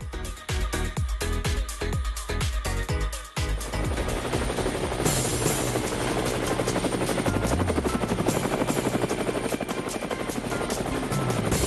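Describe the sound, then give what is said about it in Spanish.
A loud helicopter rotor thumps in a steady rapid beat, dominant, with a whining engine layered over the chopping for the whole stretch, heard as someone rides aboard the helicopter; no one speaks. “ya yo estoy montado en el helicóptero y vamos a seguir a Exilda a ver qué visitamos hoy”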